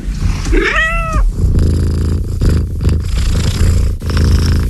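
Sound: cat purring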